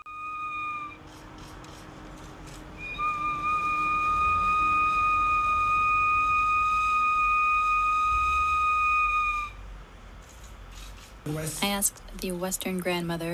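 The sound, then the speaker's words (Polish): A sacred bone whistle, blown by the leader of a ceremony, sounds a short steady blast, then a long sustained one, clear over a low background hum; a voice begins speaking right after it ends. “Następnie przewodzący tej ceremonii gwizdał w święty gwizdek z kości.”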